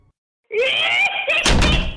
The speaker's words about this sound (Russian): Я дрожащими руками заперла дверь.